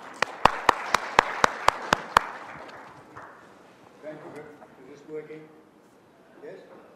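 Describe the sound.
A short burst of audience applause, with about eight sharp, evenly spaced claps standing out over the clatter. It dies away after roughly three seconds, leaving soft murmuring voices.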